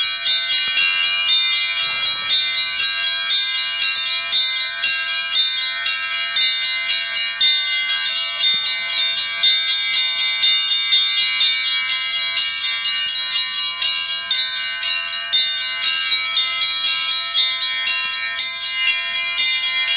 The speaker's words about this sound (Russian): Звон. кроме колокольного звона, ничего. Есть стрельба, нет стрельбы, он стоит и звонит.